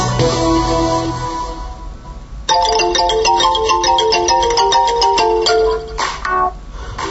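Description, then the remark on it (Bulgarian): A loud electronic phone ringtone plays a melody on its own, starting with sustained tones and then switching to a quick run of bright staccato notes, with no talking. “Благодаря ви, че смазахте телефона от звънене.”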